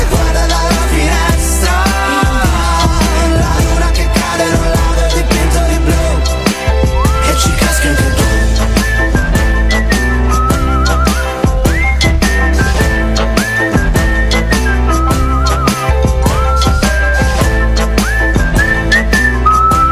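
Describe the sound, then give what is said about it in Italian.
A bright whistled melody carries the tune over a full pop backing track with steady bass and drums, loud and upfront, with no voices talking. “Viene proprio da fischiettare, eh?”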